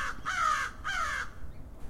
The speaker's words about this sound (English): Barely ever get good, clean, like up close audio like that of crows. This is nice because the wind's blocked here.